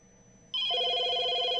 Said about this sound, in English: Are you going to answer the phone?